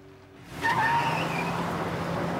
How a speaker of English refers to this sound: Unnerved, he gets into his car and reverses away from the curb.